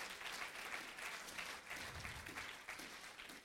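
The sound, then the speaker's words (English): A crowd claps steadily in praise of the word of God, dense overlapping applause that stays loud throughout, with a few faint voices calling out underneath. “If you're glad for the word of God, clap your hands and lift your voice.”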